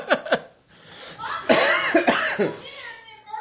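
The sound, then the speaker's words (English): A person coughs loudly several times in quick succession, sharp bursts with short gaps between hacks and a rougher fit near the end. “was coughing too loud.”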